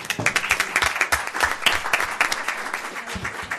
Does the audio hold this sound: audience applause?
yes